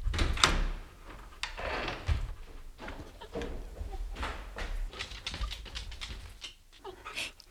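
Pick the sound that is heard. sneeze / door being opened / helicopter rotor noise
door being opened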